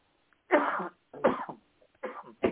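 A bout of coughing: four harsh, raspy coughs come in uneven bursts with short gaps between them, fairly loud, with no talking.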